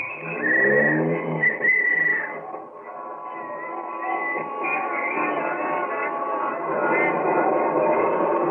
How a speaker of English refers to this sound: There'll be plenty of traffic tonight, so let's get an early start to the theater. Here's my cab, won't you step in? All right, driver, up Broadway.